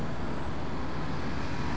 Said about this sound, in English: Truck's going down the highway here.